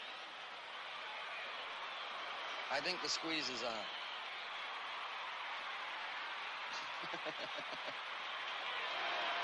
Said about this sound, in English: Oh, now Don Drysdale at the plate. Getting a nice ovation from the hometown crowd.